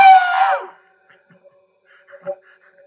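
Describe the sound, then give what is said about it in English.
A voice imitates a woman's scream: one loud, shrill, drawn-out shriek that slides downward in pitch and cuts off after about half a second, followed by faint, scattered background sounds. “Next thing she hears a scream.”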